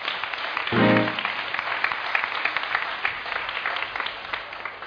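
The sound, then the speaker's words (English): An audience in Orpington applauds volunteers who came up and sang, a dense crackle of many hands clapping at once throughout, with a short cheer or whoop rising out of it near the start. “Can we give those volunteers one more big round of applause for coming up and singing?”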